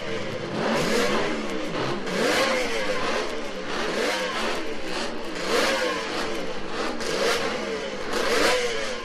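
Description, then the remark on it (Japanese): Two racing motorcycles, a Honda CR93 and a Kawasaki H1R, rev hard while training on Tsukuba Circuit in Ibaraki, Japan, their pitch repeatedly rising and falling in loud, sweeping waves as the bikes accelerate and shift, with no voices. “ホンダ CR93 と川崎 H1R に乗る2人のライダーはトレーニングに余念がありません。”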